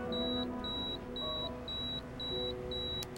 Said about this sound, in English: That's why my address book is alphabetical by city, and my pager will always go off during dinner.